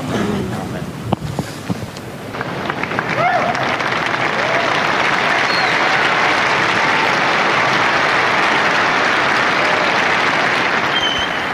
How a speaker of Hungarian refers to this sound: Napon is tapssal köszönik meg Ferenc pápának az áldását, a tanítását, a Szent Péter téren jelenlévő zarándokok